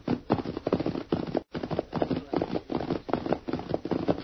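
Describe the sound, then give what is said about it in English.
Hooves of a sorrel pony gallop in a steady, rapid rhythm, the beats thudding closely together and fairly loud throughout, with a brief break partway through before the pounding resumes. “he guided his sorrel pony along a hillside trail that led to his ranch”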